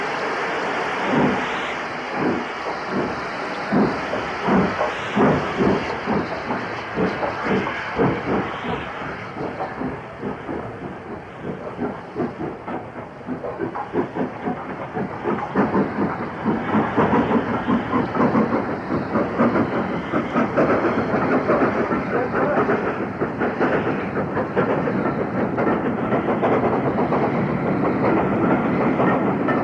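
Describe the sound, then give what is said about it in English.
A V2 three-cylinder steam locomotive pulls away with a rapid, syncopated rhythm of loud exhaust beats echoing under a road overbridge and into the distance, over a steady rumbling roar that holds for the whole stretch, with no voices. “2 minutes later, the V2 departs with its syncopated three-cylinder exhaust beats echoing under the road overbridge and into the distance.”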